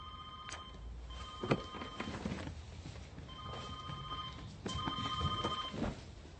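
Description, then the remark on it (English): A telephone rings in three repeated bursts of bright, warbling electronic tones separated by short pauses, steady in level, with no one speaking. “It's your phone.”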